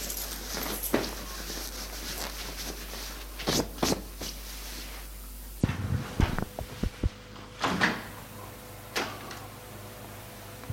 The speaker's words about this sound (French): Il entend que l'homme a ouvert la porte.